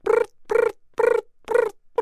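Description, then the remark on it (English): A person imitates a snowy tree cricket's chirp with a steady train of short, evenly spaced voiced pulses, about two per second, each a buzzy mid-pitched tone, heard alone without other sound. “That is …'s best snowy tree cricket.”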